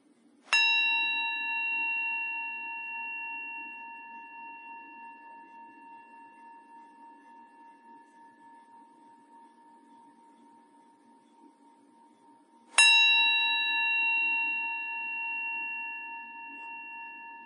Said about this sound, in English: And let's begin by receiving the sound of the bell. I'll ring it 3 times.